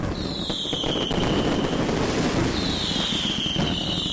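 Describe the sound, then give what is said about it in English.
A dense, continuous barrage of New Year's fireworks set off with neighbors on a street: constant crackling and popping with sharp bangs, while two long high whistles of rockets streak overhead one after another. “by wheeling a luggage cart full of fireworks onto a street and joining the neighbors in igniting a frenzy of pyrotechnics.”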